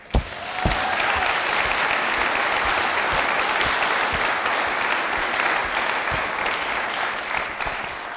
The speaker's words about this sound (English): Let's praise Jesus for our students' message that they shared with us this morning with some clapping.